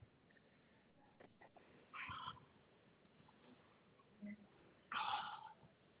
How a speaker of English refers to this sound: I can't deal with this cat anymore. She sneaks right in. Sorry that she's bothering you.